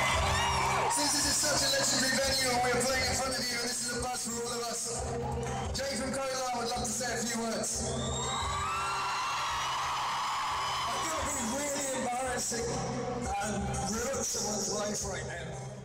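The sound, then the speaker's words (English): A huge stadium crowd of 82,000 people screams and cheers without letup as a man proposes to his girlfriend on stage, a dense wall of high-pitched shrieks and whoops that stays loud for the whole stretch and swamps any other sound underneath. “You can hardly hear it with all the screaming fans.”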